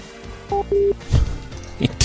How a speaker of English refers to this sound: He hung up the phone.